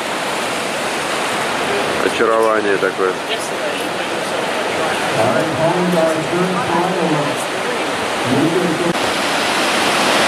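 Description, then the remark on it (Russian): Loud, steady roar of churning water and rolling waves, new waves forming one after another with wind blowing mist off them, a dense continuous rush with a man briefly speaking over it near the start and again later while filming. “Новые волны одна за одной зарождаются и так идут.”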